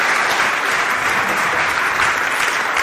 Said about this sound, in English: Fantastic. Why don't we give a round of applause? It's great. Well done,